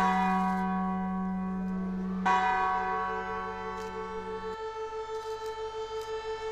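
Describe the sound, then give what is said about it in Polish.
Twenty-nine church bells ring together across the centre of Wieluń, Poland, at 4:40, their overlapping tones humming and echoing, with a fresh clang partway through and a slow pulsing shimmer as the peal rolls on. No one speaks. “Dzwonów było 29, dokładnie tyle, ile samolotów Luftwaffe pojawiło się nad Wieluniem 81 lat temu.”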